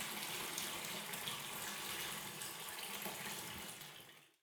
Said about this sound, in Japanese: 一応シャワーで全部洗い落としましょうかね。